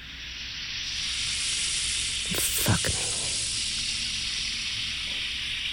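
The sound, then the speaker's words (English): Steady sizzling like meat searing on a hot grill, a continuous bright crackling hiss throughout, briefly overlaid by a short spoken phrase near the middle. “I want you to hear me sizzle.”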